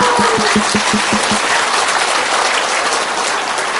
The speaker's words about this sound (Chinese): 我再一次为著琴日好多好多弟兄妹决志，我哋鼓掌。